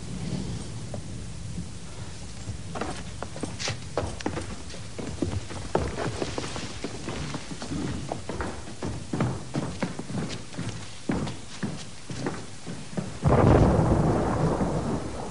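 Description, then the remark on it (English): A thunderstorm with steady, pattering rain and low rolling thunder throughout, building to a loud thunderclap near the end. No voices are heard. “Let us withdraw. There'll be a storm.”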